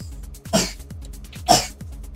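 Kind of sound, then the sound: human body sound, coughing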